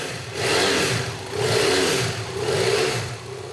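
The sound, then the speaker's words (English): A BMW F800 motorcycle engine revs up three times in quick succession in a back room of a warehouse, each throttle blip swelling loud before dropping back toward idle, with no voices. “Birgit takes me to a back room in the warehouse to show me her motorcycle, a BMW F800. She revs the bike.”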